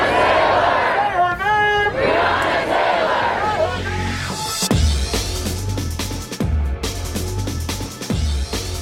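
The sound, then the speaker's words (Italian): A large crowd of protesters in a square in Louisville, Kentucky, chants "Say her name!" and shouts together in loud, rising cries, then the chanting gives way to heavy rhythmic thumps repeating every second or so beneath the noisy crowd. “E avete sentito brevemente, quasi come un graffio, quello che è il grido della piazza nel Kentucky, Louisville in particolare.”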